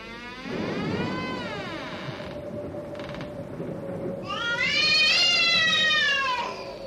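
A cat meows twice, a long drawn-out wavering cry followed by a louder, higher, rising and falling meow, with a steady low rumble running underneath throughout.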